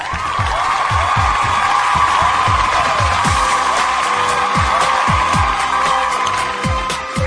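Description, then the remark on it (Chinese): Loud, continuous applause and cheering from an audience fills the scene, with a steady rhythmic thumping beat running underneath the whole time. “OK， 掌声送给”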